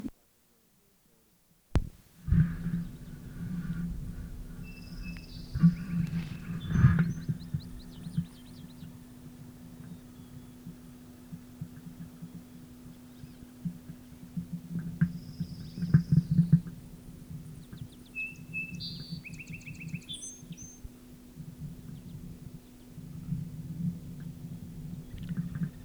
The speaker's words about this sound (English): Calls by male rufous, probably passing hummingbirds.